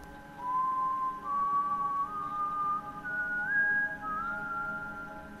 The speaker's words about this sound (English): Finally, the man whistled.